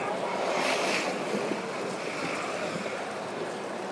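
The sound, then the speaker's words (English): Steady, gentle water washing and lapping with a soft breezy hiss, calm with little wind, fairly even in level throughout, no voices and no sharp splashes. “The water sounds quite calm. Not much splashing going on.”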